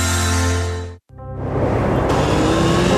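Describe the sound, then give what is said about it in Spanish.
Loud engines of two motorcyclists on identical motorcycles rev with a steady droning tone, cut out for a split second, then roar back with rougher, rising revs as if accelerating along a road with a 50 km/h speed limit. “Dos motociclistas, Alberto y Julio, conducen por una vía con límite de 50 kilómetros por hora”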